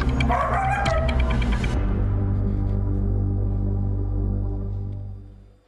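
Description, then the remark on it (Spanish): Dogs bark and yip in a short, busy burst at the start, then give way to a low, steady droning tone that slowly fades out. “además de la comunicación alcanzada con los perritos”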